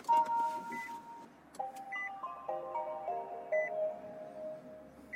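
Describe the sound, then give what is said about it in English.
An electric car's startup chime plays a short melodic sequence of clear electronic beeping tones over a faint background hum as the car is turned on. “Can we hear you turn it on right now?”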